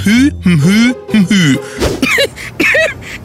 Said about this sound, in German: Typ 2, die um gutes Benehmen bemühte Dame, die den Husten im Keim ersticken will und versucht, den Mund beim Husten geschlossen zu lassen.